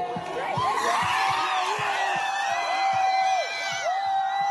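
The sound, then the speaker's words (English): A loud crowd at a World War II memorial to Yale students cheers and yells as an American flag is torn down, many overlapping voices whooping and shouting at a steady level throughout, with a regular low thumping beat running underneath. “events took place at a World War II memorial to Yale students who served in the wars and tore down an American flag and cheered as it was brought to the ground at that memorial.”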